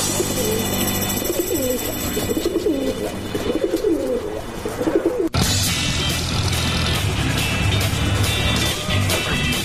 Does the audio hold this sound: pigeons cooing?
yes